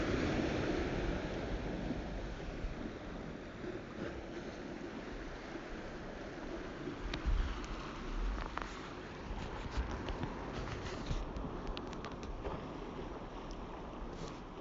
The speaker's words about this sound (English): And here's another wave.